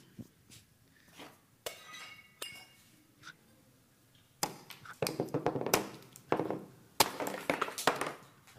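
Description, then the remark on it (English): Pottery being smashed: a few scattered sharp cracks and clinks at first, then a dense, loud run of shattering crashes with shards tinkling and clattering down. “I just got a little bit of a clip to show you so you can watch some pottery being smashed.”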